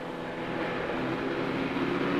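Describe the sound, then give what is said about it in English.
A car engine runs at a steady idle, a constant droning hum with a low rumble that holds evenly throughout, moderately loud, with no voices. “Stop the car!”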